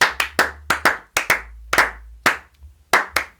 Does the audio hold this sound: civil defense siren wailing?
no